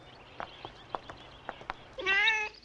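A few soft, scattered taps and clicks lead into a single clear cat meow near the end, fairly loud, with a drawn-out, wavering pitch, from a cat sitting on a table by a birdcage in a plush room.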